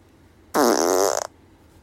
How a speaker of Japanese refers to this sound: おならが出そうなので出していきます。